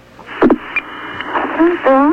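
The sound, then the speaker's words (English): A telephone rings on a call to the Pope's office, heard through a hissy, crackling phone line. A steady high-pitched tone holds for about half a second amid the static, with a few clicks before it and warbling tones at the end. “Ooh, that's a ring. Phone skiers ring.”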